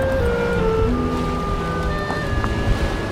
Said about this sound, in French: Un peu de vent ce matin. Hein. On a eu une bonne tempête cette nuit là.